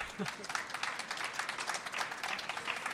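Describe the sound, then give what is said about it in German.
Steady audience applause welcoming author Birgit Rabisch before she reads from her new novel Wir kennen uns nicht, many hands clapping in a dense, continuous patter that stays fairly even in loudness for the whole stretch, with no voices standing out. “Applaus für Birgit Rabisch.”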